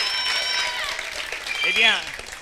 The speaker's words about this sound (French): Monsieur le maire, que je vous demande d'applaudir très, très, très, très fort.